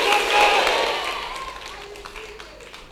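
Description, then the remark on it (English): A church audience claps and cheers in a big, reverberant space during a sermon, responding to a call to clap and say "I receive it", with scattered voices calling out over the applause as it gradually fades down. “If I were you, I would clap my hands and say, I receive it.”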